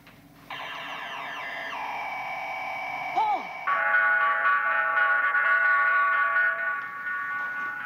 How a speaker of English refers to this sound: Computer gave a collision alarm, sir.